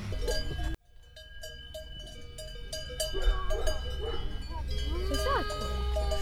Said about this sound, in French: On suit les vaches pour que les vaches aillent à l'étable.